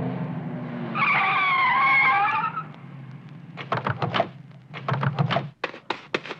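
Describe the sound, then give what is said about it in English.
Car tires screech in a loud, wavering skid over a low engine rumble as a car pulls around a truck to force it off to the side, followed by a rapid series of heavy thuds and rattling clatter as the truck is run off the road. “There's Gus' truck up ahead. I think I can pull around him and force him off to the side.”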